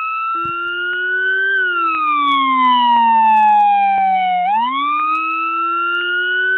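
A loud police car siren wails continuously, sweeping slowly down in pitch and then back up, layered over a deep, buzzing low bass tone that follows the same slow rise and fall, as heard in New York City.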